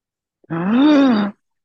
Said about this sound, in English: What was that first noise you made? I just did a gasp, an excited gasp. It sounded like you were like doing an imitation of like an appliance or something, like you're turning on a blender.